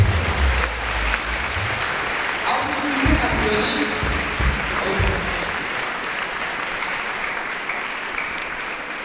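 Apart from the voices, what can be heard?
audience applause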